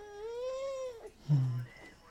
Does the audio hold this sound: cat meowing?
yes